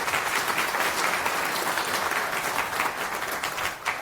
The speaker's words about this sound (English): Round of applause